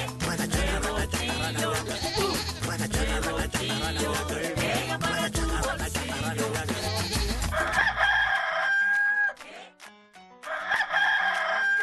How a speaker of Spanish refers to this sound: Ahí está el gallo cantor de los lunes, como siempre.